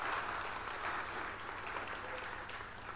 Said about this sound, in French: Si vous êtes d'accord avec moi, une bonne main d'applaudissement au Seigneur qui nous appelle à jouer, jouer, jouer.